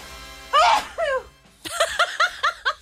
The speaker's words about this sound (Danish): Sidst jeg hørte dig nys på den måde, det var sidste år, da vi indspillede vores julesang. Ja, rigtigt. Ja, den kom lige bag på mig.